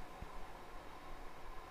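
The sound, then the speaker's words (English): Soft, continuous swishing of feet rubbing together like a cricket on bedsheets, a quiet, steady rustle with slight rhythmic fluctuations and no voices. “I'm rubbing my feet together”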